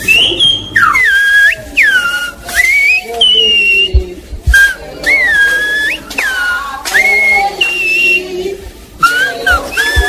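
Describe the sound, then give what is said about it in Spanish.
Loud, piercing human whistling of Silbo Gomero, the whistled language of La Gomera, in a speech-like pattern, with sliding, rising and falling pitches broken into phrases that mimic spoken language. Strong, with no talking. “El silbo gomero tiene la particularidad de que es muy potente y puede ser escuchado y entendido a larga distancia, ¿no?”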